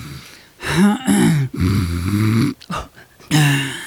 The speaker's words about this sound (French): Vous ronflez? C'est toute la merde que j'ai dans la tête.